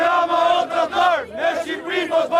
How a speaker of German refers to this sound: Edi Rama, du Verräter, Albanien ist keine Handelsware, skandieren die Demonstranten.